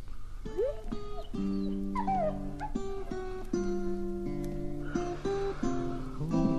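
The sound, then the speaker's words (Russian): A dog whimpers and yips over and over, high whining cries rising and falling in pitch with short sharp yelps between them, fairly loud, with no talking. “Во-первых, собака мне не нужна.”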